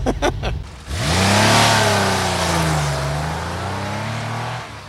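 A few sharp clicks, then a Lancia Stratos Monte Carlo rally car engine roars to life, revving up loudly and holding a rough, wavering growl that rises and dips, with no one talking.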